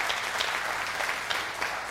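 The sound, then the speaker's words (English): A church audience applauds its guest preachers, dense overlapping claps forming a continuous bright patter with a few sharper peaks, sustained throughout with no voices on top. “If you've enjoyed them as much as I have, give them a round of applause because they've done an amazing job.”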